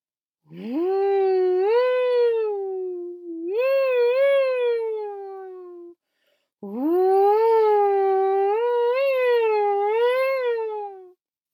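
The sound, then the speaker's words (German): A voice imitates a strong howling wind with long, loud, wavering hoots that rise and fall in pitch: two swooping howls, a short pause, then a longer sustained one. “Wie er dort ankam, blies der Wind ihm so stark entgegen, dass er schreien musste, um gehört zu werden.”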